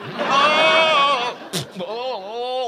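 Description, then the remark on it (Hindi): Two long, wavering goat-like bleats, loud, separated by a brief sharp noise. The quavering cries sound as if a person is imitating a goat, inside a house. “अबे क्या सारे मोहल्ले की बकरियों को यहाँ जमा करना चाहता है मेरे घर में?”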